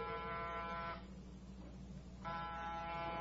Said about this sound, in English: Get off the buzzer.